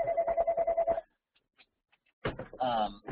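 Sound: telephone ringing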